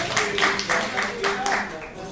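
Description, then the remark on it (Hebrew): An audience applauds together, steady claps landing in a loose rhythmic pattern at moderate volume, with voices murmuring underneath throughout. “תחיות כפיים, כן, תמחו כפיים, מגיע לו.”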